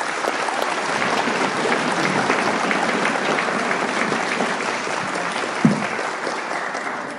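A sustained round of applause from a group, dense steady clapping that holds at an even loudness for several seconds before tapering slightly at the end.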